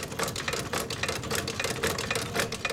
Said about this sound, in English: Edwards has to move a green fabric tail out of the way to sit down at a sewing machine and resole a shoe